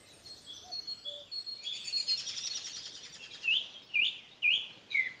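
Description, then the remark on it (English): Birdsong in a garden in Banlacara, Kilfenora, County Clare, Ireland: high, thin twittering and a fluttering trill, then four clear, sharp chirps repeated at a steady pace, moderately loud over a quiet background. “This is the bird song I'm hearing.”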